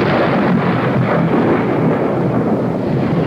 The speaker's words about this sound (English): That storm last night shook this old house like a terrier shaking a rat. I lay trembling in my bed while it crashed its way towards us, then burst in a roar overhead.